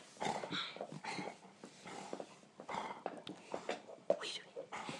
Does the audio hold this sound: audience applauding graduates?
no